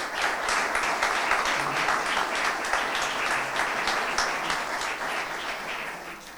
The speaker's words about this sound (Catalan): Un fort aplaudiment.